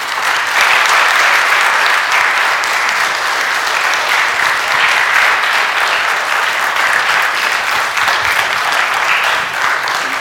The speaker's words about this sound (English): I'm going to ask them to please thank these gentlemen for coming here. Just show them just a general round of applause for coming. I'd appreciate it.